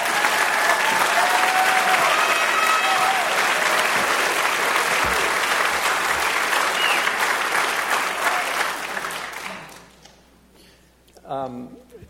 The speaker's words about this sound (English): Gentlemen, let's have a round of applause for the Mattis Hill Doctors.